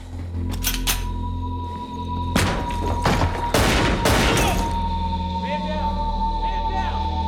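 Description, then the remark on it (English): Loud pistol gunfire, fired from an office doorway aimed outside: several sharp, cracking bangs in two clusters, the later ones coming in quick succession, over a steady low hum and a faint continuous tone. “He takes Danko's gun, then opens the office door, aims the gun outside, and fires.”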